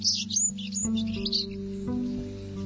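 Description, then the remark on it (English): A sparrow sings a quick run of high, bright chirps and trills, clear, over a steady low musical drone that continues after the song fades. “Sparrows are often written off as just little brown birds because of how common they are.”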